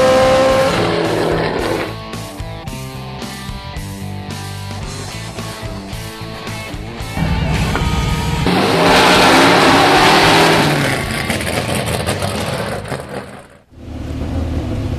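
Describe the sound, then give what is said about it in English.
A loud Trans Am series race car engine of more than 850 horsepower revs hard at Willow Springs race track, with rising and falling pitch, sustained throaty roar and brief tire squeal, ending abruptly before a short lull and restart. “This is my car. It's the top of the Trans Am food chain. More than 850 horsepower.”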